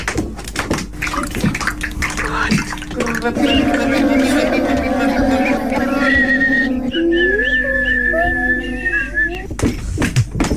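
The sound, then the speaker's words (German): Children of the Frechdachs group at St. Josef Kindergarten in Traunstein, learning to make music with their own bodies: sharp claps or slaps at first, then a chorus of hummed, whistled and sung tones that hold, slide and step in pitch, loud and overlapping. “Die lernen nämlich gerade, wie sie mit ihrem eigenen Körper Musik machen können.”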